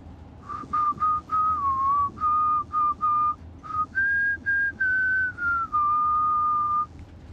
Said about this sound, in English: Hey, you know, it's a really good thing I heard you whistling that back at Preston Lake.